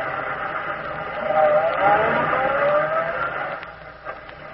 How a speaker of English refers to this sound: That car that just drew up. Oh, he wanted to know where Highway 22 was.